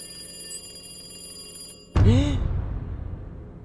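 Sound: telephone bell ringing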